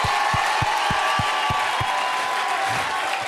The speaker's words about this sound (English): Clap your hands till they hurt a little bit. Shout a little bit till your voice cracks.